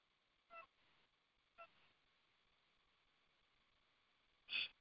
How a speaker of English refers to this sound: There's a chicken outside my farm. I'm trying to figure out how to get in. I'll let you in. Oh, there's the chicken.